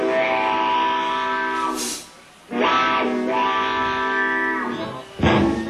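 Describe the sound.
A pedal steel guitar mimics a train whistle with loud, sustained, wailing chords that swell and bend, breaking briefly before a second long, gliding wail and a final sharp blast.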